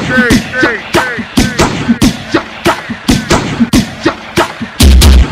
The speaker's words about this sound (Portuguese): Setenta e cinco cuspiu, vários tiros de fuzil.